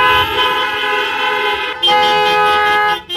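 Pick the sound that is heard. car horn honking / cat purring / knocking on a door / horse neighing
car horn honking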